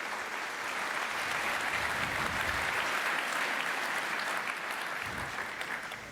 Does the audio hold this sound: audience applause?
yes